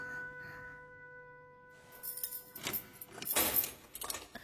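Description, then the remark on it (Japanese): Keys borrowed for a photo shoot jangle and clink in a few quick bursts of bright metallic rattles, following a quiet stretch with a faint steady hum. “え、なんで鍵？ 撮影用に借りてるの。”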